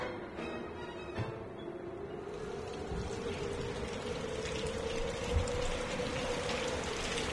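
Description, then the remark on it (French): Steady rain pours down at night in wind, a dense, even hiss with scattered patters, while a low droning whine rises slightly and then holds in the background. No one speaks. “Voilà que la pluie s'en mêle maintenant.”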